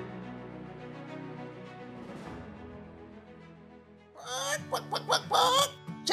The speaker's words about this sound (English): Chicken.